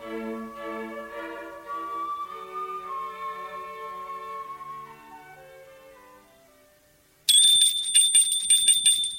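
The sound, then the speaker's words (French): Soft, sustained musical tones fade away, then a loud, shrill front-door doorbell suddenly rings with a rapid buzzing rattle for about two seconds, with no voices. “On a sonné à la porte d'entrée.”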